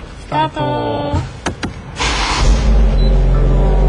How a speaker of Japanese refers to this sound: はい、じゃあもうあとはバホバホ言わせていただくと、はい、皆さんにお聞きいただくだけとなりますのででは所定の位置へ、 所定の位置へ行ってきます。それではエンジンスタートいたしましょう。